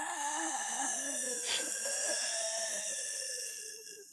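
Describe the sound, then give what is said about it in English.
Heavy, raspy breathing through a respirator, a continuous wheezing hiss with a wavering tone and a brief sharper gust partway through. Steady, with no talking. “Listen to the soothing sounds of respirator breathing.”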